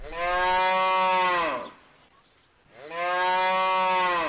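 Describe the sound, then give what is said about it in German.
A cow moos twice, each call a long, loud, low harmonic bellow that dips in pitch as it ends, separated by a short pause of near silence. No one is talking. “Ein Rind liefert etwa 200 Kilogramm Fleisch.”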